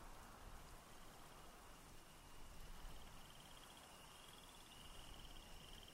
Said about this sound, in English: It was dark again. The night had been shocked silent. For a while, that silence was complete. And then, slowly, tentatively, one by one, the crickets and tree frogs began to make their night sounds again.